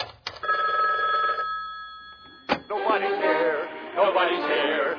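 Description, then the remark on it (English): A telephone rings on the other end of the line during a call made from jail, one long steady electronic ring heard through a receiver, then a click as a novelty answering machine tape picks up and a voice begins speaking. “I just wasted my phone call on your stupid...”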